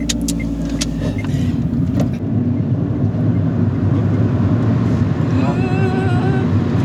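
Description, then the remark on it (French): A car's engine and road noise roar steadily and loudly from inside the vehicle as it overtakes two trucks, with a rising whine near the end as it picks up speed. “Je vous fais ça la seule fois, je viens de dédoubler deux camions.”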